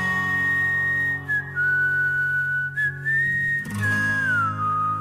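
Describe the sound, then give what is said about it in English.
A clear, sustained whistled melody in a rock song glides over a steady band backing of guitar and bass, the tune holding long notes with a few slides between pitches. No one speaks. “They followed it up with a bit of whistling”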